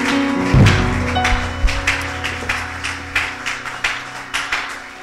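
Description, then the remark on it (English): An audience claps their hands to the glory of God in a steady, rhythmic beat, the crisp claps repeating for several seconds after a low thump and faint sustained tones at the start. “Now clap your hands to the glory of God.”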